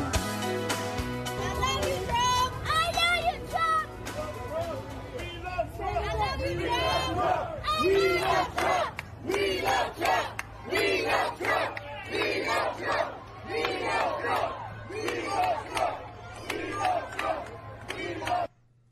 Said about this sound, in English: Harlem shouting, "We love you, Trump," less than a week ago.